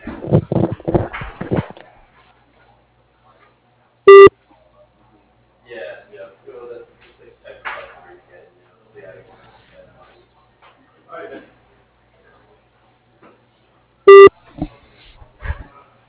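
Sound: telephone dialing tones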